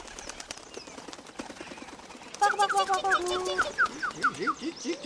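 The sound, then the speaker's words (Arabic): A rapid, papery flutter of a bulbul's wings as it takes off and flies away after taking food from a sparrow's nest, soon joined by bright chirps and whistled bird calls that grow louder toward the end. “في تلك الأثناء تجرأ بلبل ودخل عش العصفور وأخذ طعامه، ثم طار بعيدا بعيدا بعيدا جدا جدا جدا عن الأنظار.”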